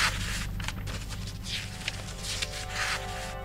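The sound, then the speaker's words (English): Dry paper rustling and crinkling for a few seconds as 2,000-year-old paper fragments are handled at a library in Oxford, with brighter crackly swells, over a steady low hum in the background. “This is what 2,000-year-old paper sounds like.”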